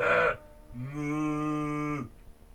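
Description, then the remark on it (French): A cow moos once, a long, steady low call lasting over a second, loud, preceded by a brief bright noisy burst. “Qui est en fait une vache d'ailleurs, donc on n'appelle plus la bestiole, mais la vache.”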